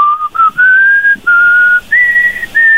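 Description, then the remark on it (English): A person whistles a short, simple tune, with several clear sustained notes that step up and down in pitch, separated by brief breaths. “You got to whistle a tune.”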